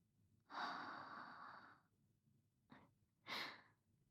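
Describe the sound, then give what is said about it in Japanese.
A woman's long, breathy exhale close to the microphone, followed by a short sharp nasal puff and another brief breath out, intimate and near with no talking. “吐息と、鼻息が当たるくらいの距離。”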